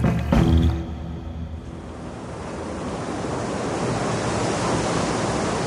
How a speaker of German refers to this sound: Der Wind von gestern ist zum Sturm geworden, der die Wipfel der Palmen zerzaust.